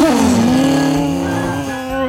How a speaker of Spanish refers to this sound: No, le dice el vendedor, no. Fíjese, bueno, pues no se preocupe, ahora mismo la probamos. Entonces arranca la motosierra.